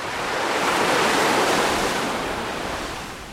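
A single wave swells and crashes onto the shore in a broad, loud wash of surf that builds, peaks, then slowly recedes, with no voices present.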